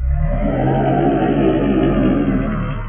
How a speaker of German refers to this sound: Es ist still und friedlich. Plötzlich schallt ein lautes Brüllen durch den ruhigen Weihnachtswald.